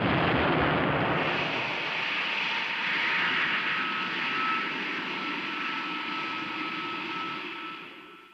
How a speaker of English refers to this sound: Rocket.